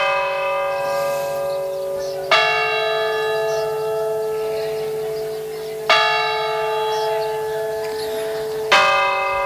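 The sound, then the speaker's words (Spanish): A church bell tolls a death knell, rung in villages when someone has died, slowly and solemnly, three heavy strikes spaced about three seconds apart, each leaving a long ringing hum that lingers into the next. No talking. “Vamos a escuchar el toque de campanas de difuntos.”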